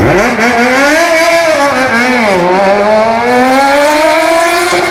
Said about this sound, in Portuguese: Aceleradas da Serra Moto Grupo.